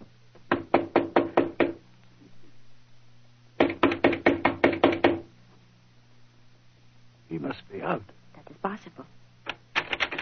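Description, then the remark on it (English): Two bursts of quick, firm knocking on a locked studio door, about six raps each, then a pause and a few short rattling clunks as the door handle is tried, over a steady low hum. “Locked.”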